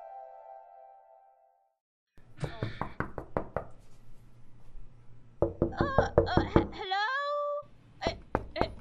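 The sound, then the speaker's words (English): Repeated sharp knocks on a door come in quick bursts, loud, with a moaning, wailing voice rising between the volleys of banging. “With the door. Yeah. Hold on there, lady.”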